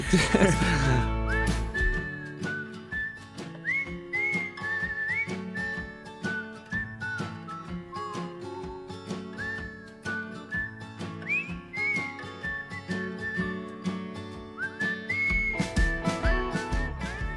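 A clear whistled melody of short, bending notes rides over a steady music bed with drums and chords, moving in playful phrases through the whole passage.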